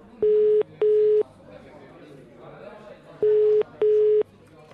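A phone ringback tone sounds on the line in two pairs of steady beeps, each pair followed by a pause, heard through a handset with a faint background hum between rings.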